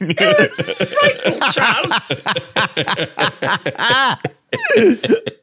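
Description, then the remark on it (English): A run of loud coughs and throaty hacking, coming in rapid, voiced bursts with a short pause before a final spluttering fit. “Cough this morning. Couldn't shift the blasted thing.”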